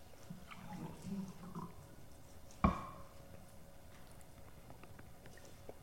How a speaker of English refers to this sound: Sorry, my voice is failing. I'm just going to take a little bit of water here.